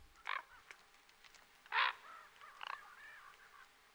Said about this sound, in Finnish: mutta kaiken kaikkiaan Raamatussa saa käsityksen, että korppi on merkittävä lintu ja ihmisellä on siitä oppimista.